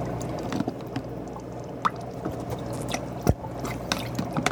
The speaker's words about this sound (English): Step two, use turkey baster to remove approximately 30 milliliters of shrimp water solution from water chamber. Okay, so I'm going to get them in my turkey baster.